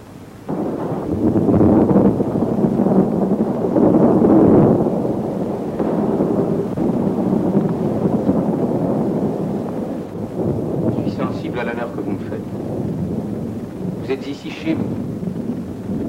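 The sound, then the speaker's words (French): A thunderstorm rumbles loudly and continuously, with deep rolling thunder swelling early on and a steady roar of wind and rain beneath. Brief muffled voice-like sounds appear near the end. “Un seigneur égaré, surpris par l'orage, demande l'hospitalité pour la nuit.”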